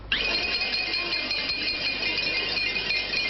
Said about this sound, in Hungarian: Több mint 1000 borász egy percen át kocogtatta a boros üvegeket.